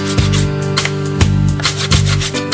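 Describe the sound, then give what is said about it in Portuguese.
A pressed guaraná stick is grated fresh in Maués for a guaraná drink made with fresh, clean water, in quick, rough scraping strokes, a steady rasping rub with sharper bursts at each pass, fairly loud and with no talking. “O Guaraná está prensado neste bastão, que ele rala na hora.”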